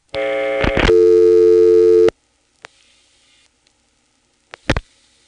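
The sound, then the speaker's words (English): A rotary dial phone handset is picked up with a clatter, a steady dial tone hums for about two seconds and cuts off, then a few sparse clicks and a sharp double snap follow as the number 49 is dialed. “I'm going to pick up a rotary dial phone, and I'm going to dial 49.”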